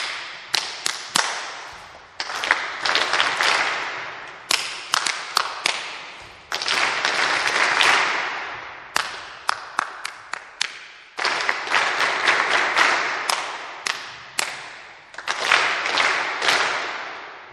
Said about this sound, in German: Vielleicht zum Beispiel so, und ich klatsche ihnen vor und sie klatschen einfach nach.